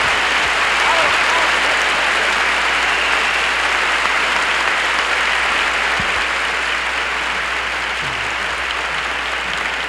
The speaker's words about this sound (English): The rest of this gang up here is the 1969 Garden State Arts Center Orchestra. Let's give a great big round of applause for a real fantastic orchestra.